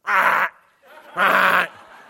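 A raven gives two loud, harsh calls, each about half a second long and separated by a short pause, with a raspy, buzzing tone and no voices.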